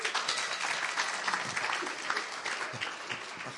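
An audience applauds steadily, a dense, even wash of many hands clapping that holds at a fairly constant level throughout without talk over it.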